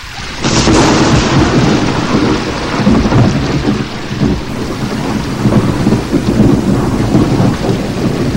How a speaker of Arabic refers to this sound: أصدقائي الحلوين، كان الجو باردا جدا، وكانت الرياح تعصف والمطر يتساقط بغزارة.